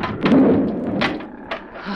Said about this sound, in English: They are closing the section doors.